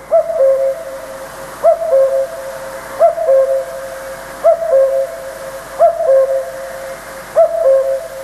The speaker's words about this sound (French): Alors là, ce qu'on entend, on a l'impression que c'est un coucou. J'imagine que ce son seul, il n'a pas été enregistré comme ça. Est-ce qu'il y a eu un traitement qui a été fait ?